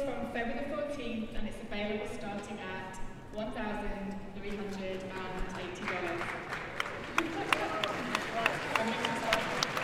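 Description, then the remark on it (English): A crowd at a product launch reacts to the reveal of a folding phone with cheering and voices, then scattered applause breaks out and builds into sharp clapping through the second half, mixed with continued crowd noise. “Some varying crowd responses.”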